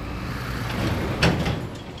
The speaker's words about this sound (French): Genre ici, tu vois, quand tu te poses exactement à cet endroit, voire sur le bord du passage piéton, tu vois le bus 62 qui passe.